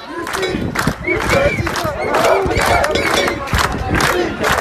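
A large crowd of healthcare workers chants loudly in unison in the street, voices rising in repeated rhythmic bursts with shouting and a few whistles, a dense, continuous street protest noise.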